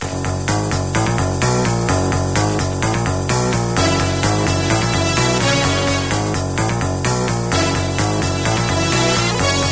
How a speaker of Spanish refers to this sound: Golpe musical, Ronnie.